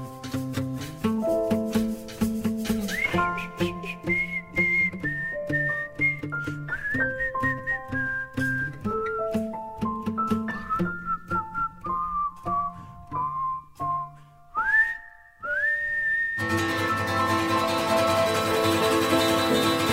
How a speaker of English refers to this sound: doing the live whistling, folks.